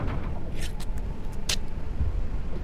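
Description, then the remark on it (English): A loaded truck's engine starts up and idles with a steady, low rumble, broken by a few brief clanks and hissy bursts partway through. No one speaks. “Okay, start up the truck!”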